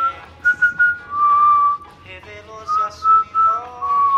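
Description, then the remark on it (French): Someone whistles Beethoven's Fifth Symphony, a clear high tune of short and held notes that step up and down in pitch, with brief pauses between phrases. “Tiens, fais-moi la cinquième de Beethoven.”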